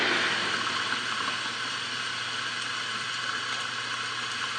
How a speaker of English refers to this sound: What is rain?